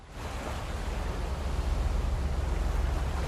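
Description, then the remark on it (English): Water washes steadily around a boat at night, a continuous hissing swash over a deep low rumble, fairly loud with no distinct splashes and no voices. “Nighttime on the boat.”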